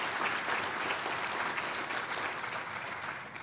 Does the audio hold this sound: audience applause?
yes